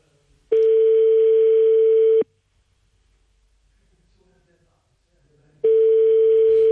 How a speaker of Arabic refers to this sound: رقم يرن